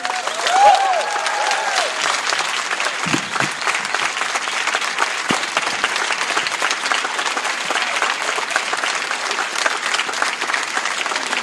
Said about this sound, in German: Euer Applaus. Großartig.